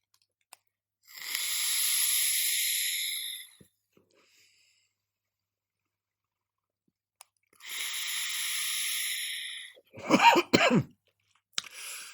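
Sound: coughing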